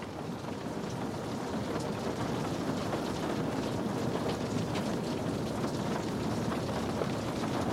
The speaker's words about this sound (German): Draußen, hinter der großen Glasscheibe, tobt das Wetter weiter. Der Regen wird stärker. Es wird stürmisch.